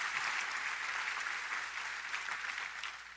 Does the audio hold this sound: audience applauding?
yes